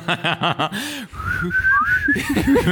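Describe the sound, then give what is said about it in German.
A person whistles a short, wavering melody with long sliding notes, imitating the constant whistling of a draught blowing into an apartment, clear, preceded and followed by brief vocal sounds and chatter in the background. “Die ganze Zeit dieses Pfeifen.”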